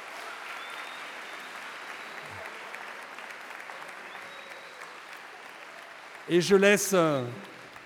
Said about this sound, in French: Et bien, c'est la chorale … et on les applaudit.